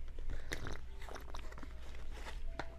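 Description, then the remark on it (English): Wet slurping sips of hot caramel-colored tea, several short bursts spread irregularly over a few seconds with soft mouth noises between them and no talking. “We take another sip of our caramel-colored tea.”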